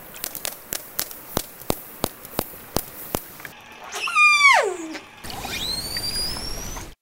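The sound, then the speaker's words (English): A steady series of about a dozen sharp killer whale echolocation clicks, followed by a loud descending call and then high, rising whistles, with no voices present. “Let me play first the orca, the killer whale.”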